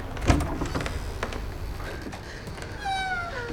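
A door opens with a sharp click of the latch, followed by a drawn-out, rising squeak from the hinges, close by and fairly quiet, with no voices.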